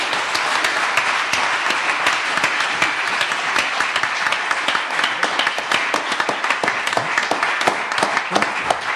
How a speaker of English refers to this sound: Awesome. Ladies and gentlemen, let's round of applause for our panelists.